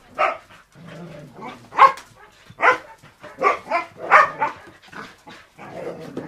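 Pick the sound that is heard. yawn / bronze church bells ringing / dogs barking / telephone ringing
dogs barking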